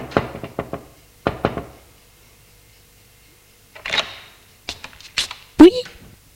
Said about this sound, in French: Entre dans l'immeuble. Frappe à la porte de la concierge qui ouvre.